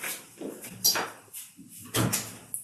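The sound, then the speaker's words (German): A door swings and shuts, with a sharp click and a heavier thud a moment later, surrounded by soft rustling and handling noises. No one speaks. “Kannst du vielleicht nur die Tür zumachen?”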